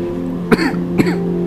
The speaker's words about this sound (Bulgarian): И тази кашлица. Какво отразява в теб тази кашлица?